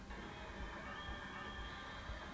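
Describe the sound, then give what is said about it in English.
A train grinding to a halt in an emergency stop, with a steady high metallic brake squeal riding over a low, continuous rumble. The sound stays fairly even throughout and nobody speaks. “Emergency stop.”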